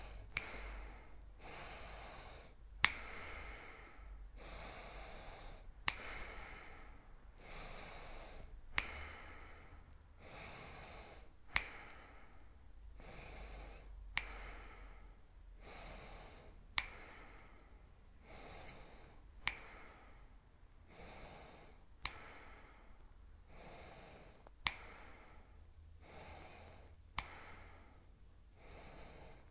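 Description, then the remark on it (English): Steady, rhythmic paced breathing in and out repeats about every one to two seconds for the whole stretch, with sharp snorting exhales marking the pace; clear, no talking. “Starting to find your pace, breathing in.”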